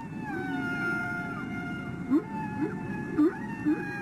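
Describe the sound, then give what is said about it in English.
Whale song from whales on their mating grounds: long, drawn-out tonal moans with slowly gliding pitch, broken by four short rising whoops near the end, all over a steady low underwater rumble. “He was the first one to actually study it and show that they were songs, that they would go for 20 minutes or an hour singing this set of notes, and then they turn around and repeat note for note the exact song.”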